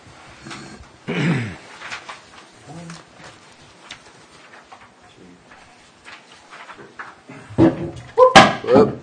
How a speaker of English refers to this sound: Knocked the sign over.